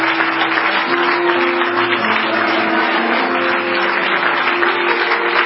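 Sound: audience clapping hands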